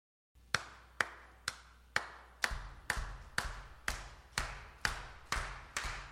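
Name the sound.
rhythmic hand clapping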